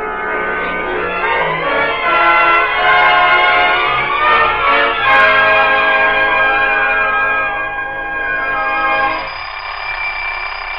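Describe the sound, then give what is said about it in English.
A loud, metallic alarm clock bell rings continuously for about ten seconds, bright and ringing with dense overtones, dropping off slightly near the end, with no voices. “Will you please shut off that alarm clock and come down to breakfast?”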